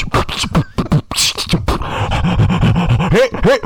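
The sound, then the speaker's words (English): An amateur beatboxing attempt: a burst of sharp percussive mouth clicks and puffs, then breathy, huffing vocal sounds with rising and falling hums, heavy breathing running throughout. “No, that's terrible, a lot of heavy breathing.”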